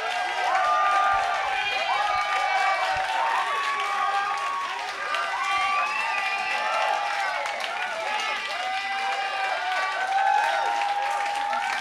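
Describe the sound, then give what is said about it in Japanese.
An audience at a chip music event applauds and cheers steadily for about twelve seconds after a performance combining an X68000 and an Amiga, with loud continuous clapping under a wash of overlapping shouts and high whoops that rise and fall without a break. “もう一回拍手お願いします。”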